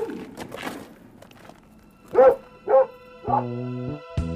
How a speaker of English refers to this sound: Somebody with a dog. Oh, sit tight. You'll not be bothered. Mr. Blow's brother lives in them houses. He's got a dog. I'm not frightened of a dog. It's a pit bull.